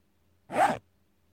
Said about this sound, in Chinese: 把拉链拉开吧